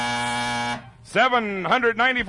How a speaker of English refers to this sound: Ready, contestants? Beat the buzzer now.